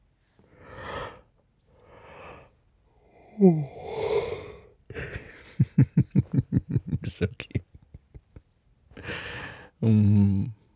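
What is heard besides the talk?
yawn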